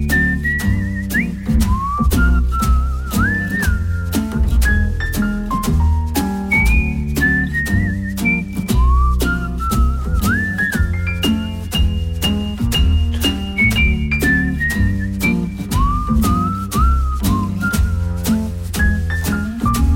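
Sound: person whistling a tune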